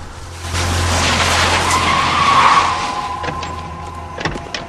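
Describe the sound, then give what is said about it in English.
A car engine rumbles as the car pulls up at a bend in the road, then the tires skid with a rising screech to a stop, followed by a couple of sharp knocks near the end. “Buster's car pulls up at a bend in the road, and he and Hank get out.”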